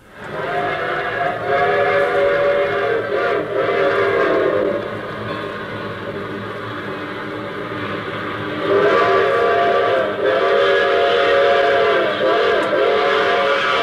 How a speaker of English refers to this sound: I start this thing off with the train.